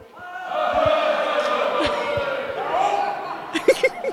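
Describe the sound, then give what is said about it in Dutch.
A large choir shouts together in one sustained, loud roar lasting several seconds, then fades as a few sharp thumps and knocks punctuate the end. “Maar dit hele koor, misschien kunnen ze even met z'n allen roepen. Jongens, laat jullie eens even horen.”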